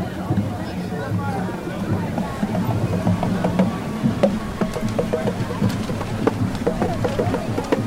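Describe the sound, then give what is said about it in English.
Steady splashing water from a fountain at the Bumbershoot 2005 festival in Seattle on Saturday, September 3rd, hisses continuously, mixed with a low rumble, drumming and the murmur of a crowd talking, with occasional sharp clicks and taps scattered throughout. “You can hear some of the drumming and the crowd and the fountain and everything, I hope.”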